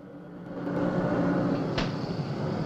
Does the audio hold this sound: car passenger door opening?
yes